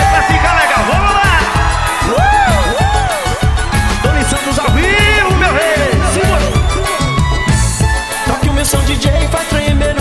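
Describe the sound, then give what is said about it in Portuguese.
A crowd screams and cheers loudly over a thumping, steady music beat, shrill voices swooping up and down in pitch and overlapping without pause. “Cadê o gritinho aí?”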